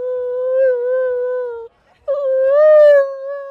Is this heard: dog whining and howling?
yes